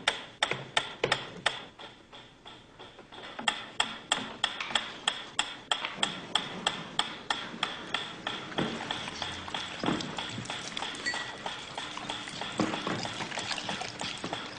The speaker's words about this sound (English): Before passing meat through the hatch, he introduced a stimulus that was totally unrelated to feeding. A ticking metronome.